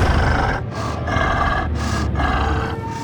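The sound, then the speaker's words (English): Heavy, rasping breaths from a large, hulking beast in pitch darkness, loud, drawn in and pushed out in a steady rhythm with low growling grunts and brief pauses between each breath. “Just then, the blackness in front of her moved, and she heard something breathe.”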